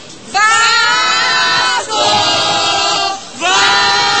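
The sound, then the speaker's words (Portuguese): A large football crowd chants the Vasco war cry in three loud, sustained bursts, many voices rising together in pitched unison with brief dips between each shout. “Cadê o grito de guerra do Vasco?”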